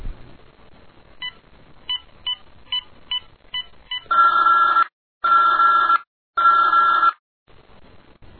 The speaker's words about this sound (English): I'll just dial his phone number again. And this time I'll really let him have it.